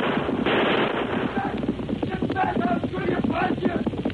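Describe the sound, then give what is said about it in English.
Rapid gunfire cracks out in quick bursts as a fleeing man shoots at pursuing riders, over the steady drumming of the galloping hooves of the white horse Silver, with a man's shouts breaking through the loud, busy din. “The polecat's shooting at us.”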